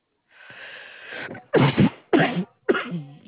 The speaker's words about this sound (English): Bless you.